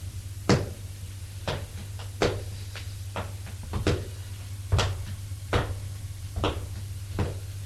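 A door to a corridor being slowly eased open, with a series of sharp wooden clicks and soft knocks at irregular intervals over a steady low hum, without any voices.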